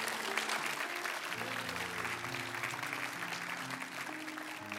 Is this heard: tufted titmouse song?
no